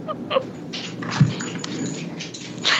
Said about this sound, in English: Just say it and tell that dog to stop moving around and holler so much.